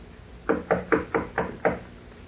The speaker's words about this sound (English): Ah, here is her suite. I will knock.